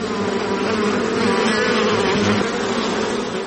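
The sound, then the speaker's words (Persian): A dense, steady drone of many honeybees buzzing together at a honeybee farm on the outskirts of Herat, Afghanistan, loud, with a continuous hum and no breaks and no voices over it. “در حاشیه شهر هرات 3 فارم زنبور عسل دارد که به تنهایی آنها را مدیریت میکند.”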